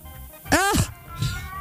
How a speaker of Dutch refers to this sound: Mijn poes vindt het ook niet leuk. Nee, ik hoorde hem. Ik hoorde hem. Die denkt, dit is ook niks wat je nu doet.